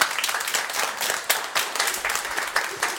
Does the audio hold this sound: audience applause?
yes